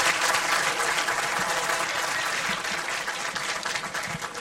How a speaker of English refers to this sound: Want to have a great big round of applause for Mr. Maurice King right here, ladies and gentlemen. Wonderful.